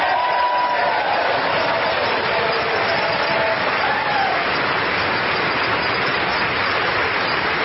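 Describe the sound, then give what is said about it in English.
Sustained applause from a large crowd during the new Speaker of the House's first speech, after his pledge that the first bill will repeal funding for 87,000 new IRS agents. A dense, steady wash of clapping at even loudness throughout, with faint cheers and voices mixed in underneath. “That's more than a smattering of applause.”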